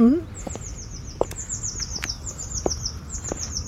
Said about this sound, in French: est-ce que vous venez de temps en temps ici, dans le jardin, écouter juste la musique des oiseaux ? J'ai la chance d'avoir une chambre qui donne sur le jardin et j'entends le chant des oiseaux chaque matin.